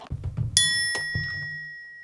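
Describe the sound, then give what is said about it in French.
A low engine rumble idles and then dies away as the car comes to a stop, while a bright chime rings out and lingers over the fading motor. “La voiture s'arrête, mettant fin au grondement constant du moteur.”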